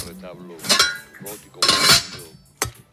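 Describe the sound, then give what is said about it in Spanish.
Kitchen clatter as eggs are hurriedly scrambled for breakfast in a home kitchen in the morning: metal utensils scrape and clink against a pan in a few quick, loud bursts, with a longer rattling stretch in the middle and a final sharp clank. “Hoy esto que escuchas puede ser perfectamente el sonido de tu casa, de tu cocina por la mañana.”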